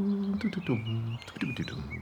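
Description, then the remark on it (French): A person imitates a European robin's song with their voice, a quick run of warbling, rising and falling chirps and thin whistled notes lasting about two seconds. “Le rouge-gorge. Tu peux l'imiter ?”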